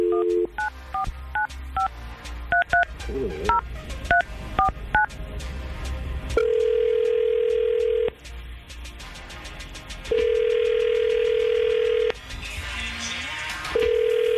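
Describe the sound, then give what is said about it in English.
A quick run of touch-tone phone beeps as a number is dialed, then two long, steady ringback tones separated by a pause while the call connects. No voices are heard. “We're going to try to call Nicole right now and see if we can get her on the phone.”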